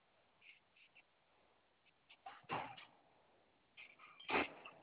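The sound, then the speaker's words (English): A dog being let inside gives a few short whines and yelps, with two louder, sharper bursts standing out against a quiet background. “Yeah, I was just taking in my dog.”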